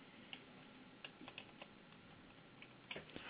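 A deck of cards being quickly shuffled: soft, irregular papery clicks and snaps scattered over a few seconds, with a small cluster near the end and no voices.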